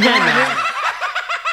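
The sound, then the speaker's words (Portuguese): A parakeet squawks: a loud, harsh opening cry that breaks into a quick run of repeated chattering chirps, with no talking over it. “Faz muita joada pra essa que é periquito.”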